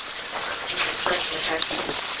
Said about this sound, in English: Yeah, that's like a pond, but this is actually, you know, the water being run from the spring itself.